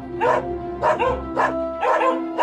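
Sled dogs bark in a steady series of loud yelps, about five bursts in quick succession over a low continuous rumble, with no talking.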